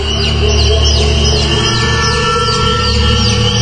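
Thin, high baby chick peeps repeat every half second or so, each a quick falling note, heard fairly far off on a mountain over a steady low background rumble.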